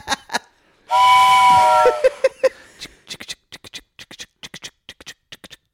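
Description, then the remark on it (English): A steam train whistle gives one loud, shrill, hissing blast lasting about a second, followed by a quick series of sharp rhythmic chuffs and clicks that fade into short bursts. “Good train's coming all the way to Dick Town.”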